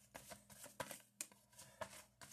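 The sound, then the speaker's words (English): Tarot cards being shuffled for a tarot reading in quick, papery bursts: a string of crisp riffles and slaps repeating several times at a moderate level, with no voices over them. “Okay, let's give these a little shuffle here.”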